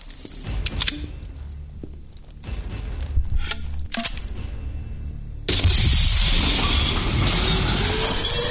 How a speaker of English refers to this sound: Just uses the grenade launcher to make his own door. Now the real alarms are going off, and there's a bunch of fucking smoke going in there.